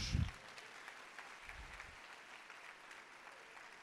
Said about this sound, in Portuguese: Levanta a mão e dá glória. Aplauda Jesus.